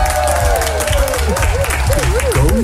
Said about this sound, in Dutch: Want ik heb weer een icoon uit die tijd te gast, dames en heren. Je kent hem vooral als Eddie uit Vrienden voor het Leven. Een groot applaus voor Peter Lussen!